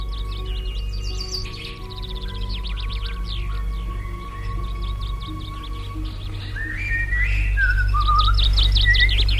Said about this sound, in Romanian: Și păsările cântă. Uite, după mine dimineața asta nimic nu mai frumos ca ciripitul lor. Să le ascult.